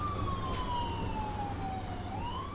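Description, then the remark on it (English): An ambulance siren wails in a slow, falling-then-rising sweep over steady traffic rumble, moderately loud, with no voices, as a Calix ambulance speeds out of its station near Northeastern Vermont Regional Hospital in Vermont on a 911 call. “Minutes later, a Calix ambulance speeds out of its station near Northeastern Vermont Regional Hospital.”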